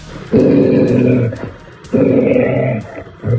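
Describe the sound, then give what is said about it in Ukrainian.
A steppe wolf, kept at the dog-handling centre of the regional police in Luhansk, growls in two long, loud, rumbling bursts, with a short pause between them and another growl starting at the end. “Степовий вовк Акела у кінологічному центрі обласного управління МВС вже близько року.”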